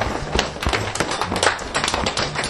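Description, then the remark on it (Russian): Rapid, irregular tapping and patting of hands against the inside and outside of the arms, a steady flurry of soft slaps and duller thumps from palms and fists, continuing throughout with no talking. “Простучали изнутри ручки, снаружи. Кто-то ладошками, кто-то кулачками.”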